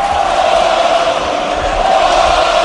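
A football crowd at a Girona match chanting the player name "Porto, Porto" in unison, a loud, sustained roar of many voices with a steady, droning pitch and no pause throughout.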